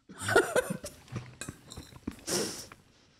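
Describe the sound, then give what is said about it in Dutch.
Wet, irregular chewing with soft mouth clicks and smacks as people eat artisanal cheese from the highlands of Poland, moderately loud bursts coming unevenly over a few seconds with no talking. “Wij moeten even eten.”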